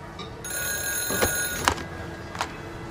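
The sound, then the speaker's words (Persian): A telephone starts ringing just after the start and keeps up a steady, bright metallic ring, moderately loud, with a few soft knocks and rustles scattered through it. “جواب نده.”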